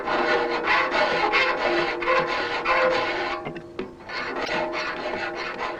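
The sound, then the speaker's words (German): Rapid, rhythmic rasping of a file stroking across saw teeth to sharpen a saw, a first pass filing only the right-set teeth and skipping every second tooth, fairly loud, with a brief pause mid-way before the steady scraping strokes resume. No one speaks. “Beim ersten Durchgang, bei dem man nur die Rechtsschärfe anlegt, wird infolgedessen jeder zweite Sägezahn übersprungen.”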